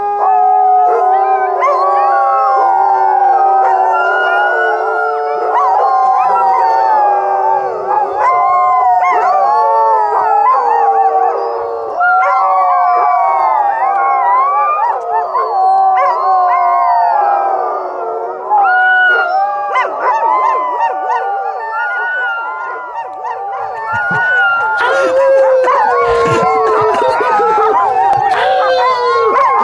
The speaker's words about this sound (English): Mats's team just started howling at Yor's team as they were getting ready. And then dogs all over Takatna, basically, all over the dog lot, just started chiming in